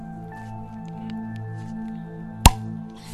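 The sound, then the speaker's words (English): A Halloween beer, a Belgian pale ale, being opened: one sharp pop followed by a short fizzy hiss, set against a low, steady background hum with no one talking. “I'm going to open a beer.”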